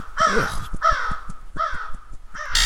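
crow cawing

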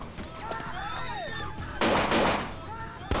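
gunfire

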